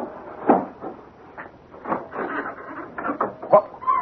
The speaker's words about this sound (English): What's that? Bats. They nest here.